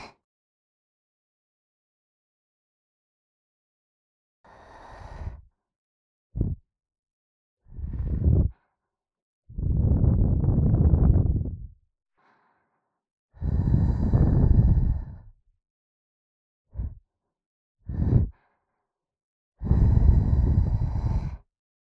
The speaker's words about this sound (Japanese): ねえ、体反応しちゃってるんだけど、私のふって吐息で何か想像しちゃった？じゃあ、せっかくだし、耳元で紅茶冷まさなきゃ。吐息が耳に触れちゃって、気持ちいいよ。じゃあ、早速。